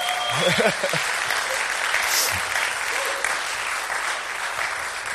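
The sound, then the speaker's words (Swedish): Steady audience applause for a woman's birthday, a dense wash of many hands clapping at a fairly loud level, with a few voices and cheers mixed in near the start. “Ge henne en stor applåd.”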